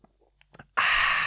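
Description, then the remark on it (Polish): A person imitates a baby gulping a drink with its whole mouth put into it: a few soft, quick mouth clicks and swallowing noises, then a sudden loud, breathy exhale like a gasp for air. “Nie, że jeśli ktoś to ogląda na YouTubie, to wiecie, że bobasy na przykład piją tak, że wsadzają tak całą buzię do tego.”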